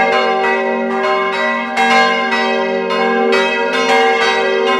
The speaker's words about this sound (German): Der läuft automatisch, muss niemand was drücken, damit die hier losbimmeln.